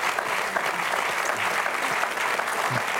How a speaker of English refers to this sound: We'll just applaud the glory and grace of God that we saw in Peter.